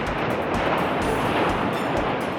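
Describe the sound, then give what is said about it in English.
Steady, broad roar of sea waves below a cliff, a continuous wash of surf with faint swells rising and falling, with no voices. “He could hear the sea below.”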